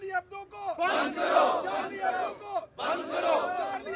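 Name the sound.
protest crowd chanting slogans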